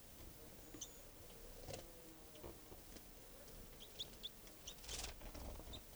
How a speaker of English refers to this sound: tree branch, and it's a juvenile bird. And that's 305 chittering there. That was a wild bird flying.